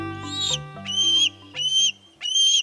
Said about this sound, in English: National symbol though it may be, this juvenile bald eagle, not long out of the nest, is anything but graceful at the moment.